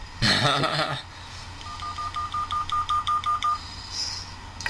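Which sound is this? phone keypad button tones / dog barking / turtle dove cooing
phone keypad button tones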